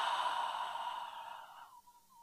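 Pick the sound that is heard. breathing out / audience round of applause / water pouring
breathing out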